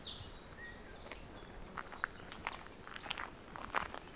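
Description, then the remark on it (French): Soft footsteps walk at an unhurried, slightly uneven pace, each step a brief scuffing crunch over a low rumbling background, with faint bird chirps early on. “Vous marchez, laissez-vous aller.”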